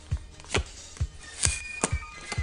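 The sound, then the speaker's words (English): A deck of Top Trumps cards being shuffled, heard as six sharp, papery slaps in a steady rhythm about every half second, with no one talking. “is torturously shuffling the deck now.”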